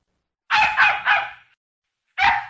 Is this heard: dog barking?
yes